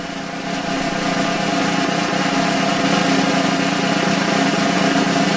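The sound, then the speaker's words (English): A sustained drum roll for picking a listener giveaway winner, of rapid, buzzing strokes, steady and fairly loud, swelling slightly after the start and continuing unbroken for about five seconds with no talking over it. “So well, let's do a drum roll here.”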